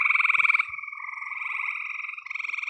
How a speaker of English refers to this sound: And my favorite sound of the spring is the gray tree frog.